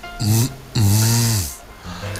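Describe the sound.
A voice imitates a vibrating buzz in three raspy, hissing bursts: a short one, then a longer drone that sags downward in pitch, then a quieter short one.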